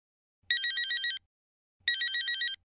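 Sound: telephone ringing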